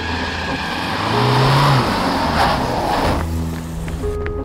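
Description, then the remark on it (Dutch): A van's engine hums and swells as it approaches a home, its low tone rising briefly before settling into a steadier idle as it pulls up and slows to a stop; early February 2006. “Van der Bijl staat in de deur van zijn woning als er een busje aankomt rijden.”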